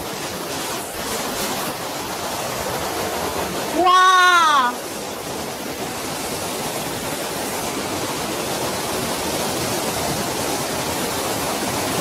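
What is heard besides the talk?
waterfall rushing water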